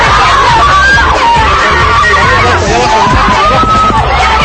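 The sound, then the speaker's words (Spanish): A dense crowd in Lima, Peru shouts and yells all at once as concert tickets sell out, a loud, continuous wall of overlapping voices with high-pitched cries rising above the babble, unbroken throughout. “Los gritos de todos lados de la gente.”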